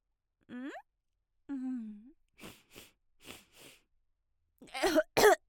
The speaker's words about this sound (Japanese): ケツ穴おっぴろげてブリブリってぶっこくの。すっごいの出た。うるさい屁何発もこいちゃって大丈夫？